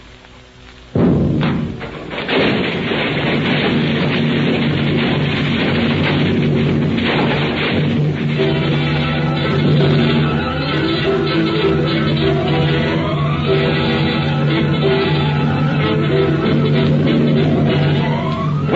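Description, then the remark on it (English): A sudden, loud bomb blast erupts after a brief quiet moment, blowing up the center of the Times newspaper building and snapping the girders of the second and third floors, followed by a long, heavy rumbling roar with crashing debris and falling heavy machinery, and rising tones continuing to the end. “The center of the Times building blows up. The force of the explosion snaps the girders supporting the second and third floors as so many toothpicks.”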